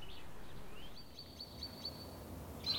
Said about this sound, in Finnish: Kevät on koittanut. Lintuja on jo paljon enemmän. Olen istunut tässä samassa joenrannassa lähes päivittäin, joskus vain hetken, joskus pitkäänkin.